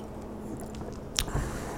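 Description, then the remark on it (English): A quiet sip of a Nordish retro alt beer, 5.2%, with a malty caramel flavour: mostly hushed, then a brief wet mouth click and a soft low gulp as it's swallowed, with no talking. “Let me have a sip.”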